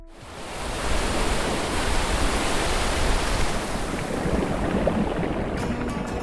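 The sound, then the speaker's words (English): A steady, full roar of ocean surf washes in and holds, a continuous rush of waves breaking on the shore, with a few faint crackling hisses near the end and no voices. “My favorite thing about the ocean is the sound of the waves.”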